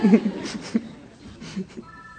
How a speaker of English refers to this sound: You know what bothers me about my cell phone ringing? Not only am I embarrassed at the moment, but my friend Mikan is going to torture me about this for a long time.